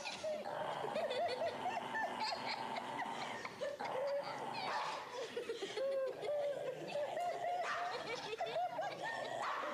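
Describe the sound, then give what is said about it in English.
A dog in a video barks and yips over and over for the whole stretch, fairly loud, while people laugh and chatter in the background. “Since we're showing dog videos, one more just for fun.”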